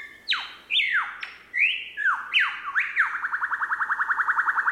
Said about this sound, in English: Or the lyrebird. How can you not be enchanted by the lyrebird?